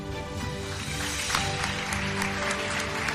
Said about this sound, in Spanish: El aplauso también para ella.